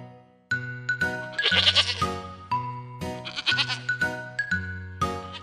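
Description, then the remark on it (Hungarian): Goats bleat at the Kecskevilág goat farm over a bouncy, evenly stepping tune, with two louder, wavering bleats rising above the music midway and again toward the end. “aki egy kecskefarmra látogatott.”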